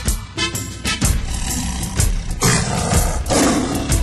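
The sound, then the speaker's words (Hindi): A lion roars loudly and repeatedly, deep rumbling bursts coming in close succession with harsh, gravelly growls between them, dominant with no talking. “वो गुर्राया चिंघाड़ा ऐसे कि खा जाएगा सबको जैसे।”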